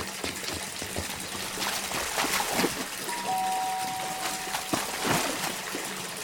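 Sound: water pouring and splashing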